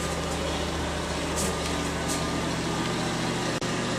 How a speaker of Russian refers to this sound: Ну-ка, давайте включим. О, заревел. Видите, вот этот. Так. Это обычное дело. Если вы пришли куда-то и слышите, что... И видите, что не светится в туалете, значит, там шумный вентилятор.